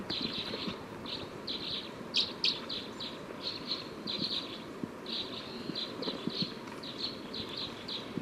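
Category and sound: bird, bird calls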